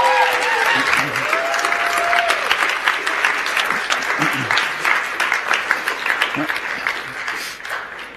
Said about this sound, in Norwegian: Så en skikkelig applaus til Stian.